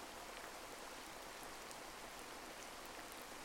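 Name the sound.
rain falling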